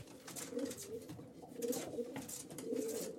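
Domestic pigeons coo in a steady, repeating rhythm, soft throaty calls overlapping, with a faint rustling, airy background and no one speaking.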